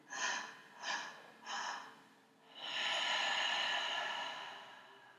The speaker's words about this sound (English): Let's start breathing now.